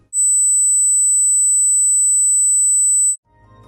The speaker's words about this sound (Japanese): これから皆さんに6段階の高周波音を聞いていただきます。ピーという音です。最初から聞いて何番目の音まで聞こえたかを覚えておいてください。まず 8000Hz の音から始めて、周波数を段階的に上げていきます。ではまず聞いてみてください。